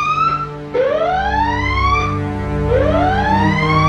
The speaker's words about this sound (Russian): Количество таких машин засекречено, зато нам показывают, как выглядит боевая тревога, если случай все-таки настал.